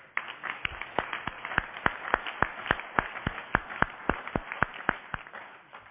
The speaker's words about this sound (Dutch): Mag ik vaststellen dat de Raad van harte instemt met de toelating van de nieuw benoemde raadsleden? En dat laten we gepaard gaan met een hartelijk applaus.